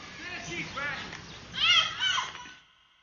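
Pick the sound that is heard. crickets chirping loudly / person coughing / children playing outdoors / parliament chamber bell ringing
children playing outdoors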